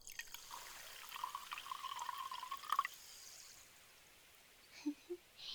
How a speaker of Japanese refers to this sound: この小さき音が聞こえるかい？パチパチと泡のはじける不思議なお水じゃ。これを額の上から細く注いでいくぞえ。